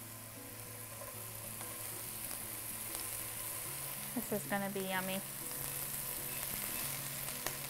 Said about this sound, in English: And then this pan is nice and hot. So I'm gonna add a little bit of olive oil. About a teaspoon, maybe a tablespoon. And then I'm gonna add the mushrooms. You got a nice sizzle.